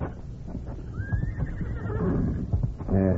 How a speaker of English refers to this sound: The horse again. Yeah, it's beyond the house.